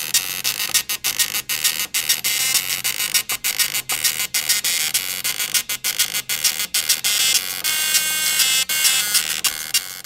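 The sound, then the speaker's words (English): A pop song rendered as a tinny, buzzy MIDI-style tune, with harsh electronic tones pulsing in a steady rhythm broken by brief gaps. It plays loudly on its own with no voices. “And it feels like it's played on like it's an old piece of technology.”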